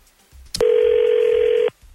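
A sharp click is followed by a single steady, mid-pitched telephone ring tone as a call is dialed from the 102.9 The Wolf radio show, holding for about a second before cutting off, with faint low rumble around it and no voices.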